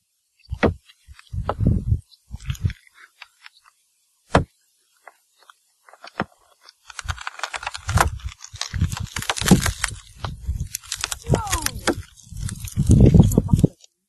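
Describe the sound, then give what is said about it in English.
Irregular crackling and sharp snapping pops of exfoliation, sparse at first with scattered single clicks, then growing into a dense, busy crackle over low rumbling thumps. No one speaks. “it is something called exfoliation”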